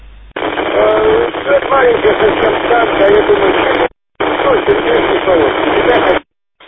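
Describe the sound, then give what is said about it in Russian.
A weak radio transmission buried in loud, band-limited static, with faint traces of a voice barely emerging; the hiss cuts out briefly, then returns before stopping. “Не, Сережа, ничего я не принял”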